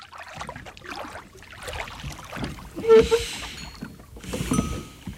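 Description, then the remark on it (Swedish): A rowboat with Mamma Mu and the crow moves across a still lake with the moon reflected in it: oars dip and splash in a steady, unhurried rhythm, with sloshing water and a sharp squeak of an oarlock midway through. “Nu ror vi. Du och jag.”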